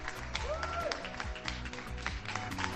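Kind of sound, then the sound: crowd, people applauding from balconies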